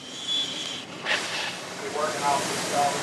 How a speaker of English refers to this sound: Mayo aims the high-pressure spray low, where the simple man's hull meets the water. He methodically works all the way around the boat